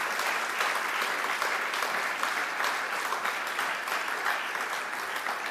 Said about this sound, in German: Ein Applaus.